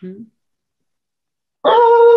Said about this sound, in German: Der Hund knurrt, ich höre das nicht wegen den.